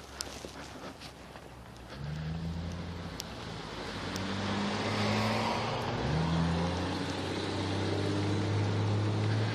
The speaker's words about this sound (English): Cars, cars, cars. Everywhere cars. I'm coming up onto that intersection.